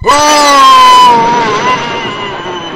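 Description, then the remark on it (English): A person screams down a phone line: one long, loud scream held for a couple of seconds with its pitch sagging slightly toward the end, with nothing else around it. “Whoever that was, they just rang to scream at me.”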